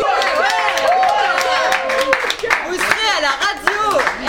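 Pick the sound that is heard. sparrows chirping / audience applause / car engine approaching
audience applause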